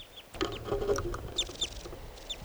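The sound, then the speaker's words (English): Wild birds call in short, high, downward-sweeping chirps, several repeated at uneven intervals, with scratchy rustling and low rumble underneath and no talking. The birds are restless wild birds near a net in which two birds have been caught, with at least three other birds around. “So recording, the wild birds are calling some more.”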